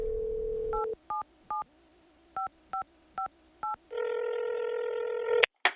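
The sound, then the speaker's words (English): A steady dial tone gives way to seven quick two-tone keypad beeps, then a buzzing ringback tone sounds before a sharp click cuts it off, as a telephone call is placed to an Arctic bird researcher. “Here, let me give her a ring.”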